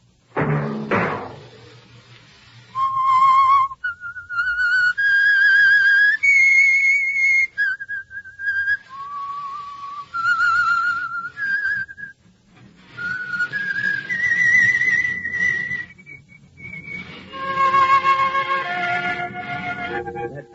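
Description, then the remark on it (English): A lone whistled melody, the signature theme of the Signal Oil radio program The Whistler, of long, held notes that step up and down in pitch, pausing between phrases, with a brief thump at the very start and no talking. “Your signal for the Signal Oil program, The Whistler, each Wednesday night at this same time, brought to you by the Signal Oil Company,”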